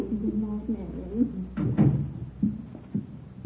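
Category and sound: household object, door opening and closing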